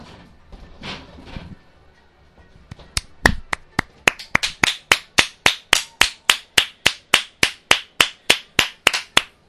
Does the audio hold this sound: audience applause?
yes